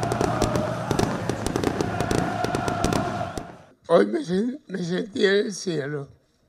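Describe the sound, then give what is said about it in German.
Rapid, sharp fireworks bangs crackle over a dense roar of fans chanting in unison as they welcome Diego Maradona as new coach of Gimnasia La Plata in La Plata, Argentina, followed by several loud, drawn-out chanted calls from many voices once the explosions stop. “Feuerwerk und Sprechchöre, die Fans haben Diego Maradona euphorisch in La Plata empfangen.”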